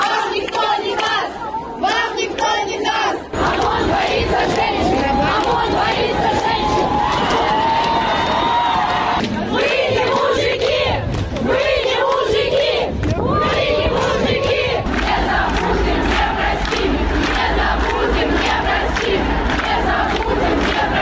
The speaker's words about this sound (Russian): Минувшие выходные опять прошли под знаком многотысячных протестов в Беларуси. В субботу состоялся так называемый «женский марш», который надолго запомнится своими креативными лозунгами и кричалками.